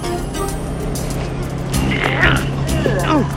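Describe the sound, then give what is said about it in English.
A bus engine drones steadily with a low, constant hum and road rumble as it cruises past open green fields and farmland, with some faint, muffled vocal sounds rising near the end. “The bus cruises past open green fields and farmland.”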